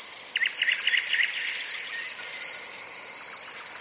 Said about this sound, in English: There is one recording of field crickets and nightingales, thrush nightingales.